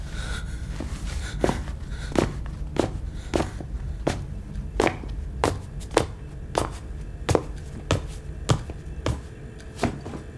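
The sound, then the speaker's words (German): Steady footsteps of Arnold Heidenberger entering a narrow kitchen, about fifteen crisp, evenly spaced steps at an unhurried walking pace over a low, rumbling background, with no voices. “Arnold Heidenberger betrat die schmale Küche.”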